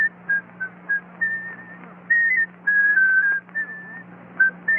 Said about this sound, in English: Oh, now, can you whistle it?